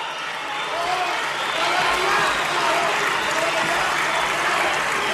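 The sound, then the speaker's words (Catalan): A large crowd applauds steadily while booing and jeering voices mix into the noise, the crowd split between booing and support for the former president of the Parliament; a dense, loud roar of clapping and shouts lasting several seconds without pause. “Ja podem dir, jo crec que aquesta hora, que hi ha una, no sé si una divisió al 50%, però vaja, una divisió entre esbroncada i suport considerable a la presidenta, la qui va ser presidenta del Parlament.”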